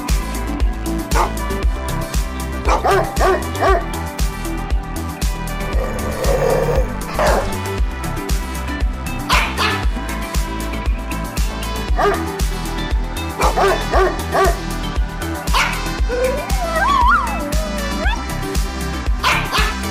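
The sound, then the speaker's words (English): A bouncy musical jingle plays loudly and steadily, punctuated by repeated dog barks and yips scattered throughout, with a whining, whimper-like sliding tone near the end. “Maybe we need a dog jingle to put in here to sort of fill the dead air.”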